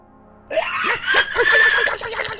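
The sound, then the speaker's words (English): A voice imitates two gnolls screaming: a sudden, shrill, strained cry with a sustained high pitch, mixed with cackling, laugh-like bursts, fairly loud for a couple of seconds. “The two so gnolls beside him both scream.”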